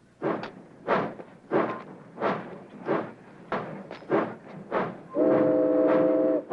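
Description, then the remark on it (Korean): Freight train No. 19 pulls away toward Portland with loud, steady chuffing bursts in an even rhythm, then a sustained train whistle sounds over the engine near the end. “제크의 화물열차 19호는 포틀란드를 향해 다시 출발하고”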